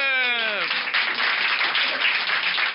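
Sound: applause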